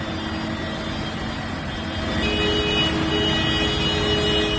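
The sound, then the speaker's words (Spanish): Many tractor horns blare in sustained, overlapping tones over a dense rumble of heavy engines during a farmers' tractor protest in La Rioja, Spain, loud and continuous throughout, with no talking. “El campo riojano haciendo notar su presencia con el sonido del claxon en otra tractorada.”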